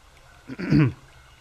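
throat clearing

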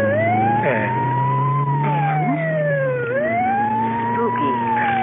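ambulance siren passing

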